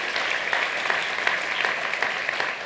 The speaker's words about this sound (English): So how about some applause for them as well?